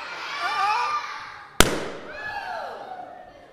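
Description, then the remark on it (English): A single sharp, loud pop of a balloon burst with a tack partway through, surrounded by excited high-pitched voices shrieking and calling out before and after the bang. “Okay, when we pop the balloon, here's the skin of the balloon, but what happened to the air of the balloon?”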